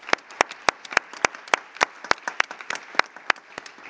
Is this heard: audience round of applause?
yes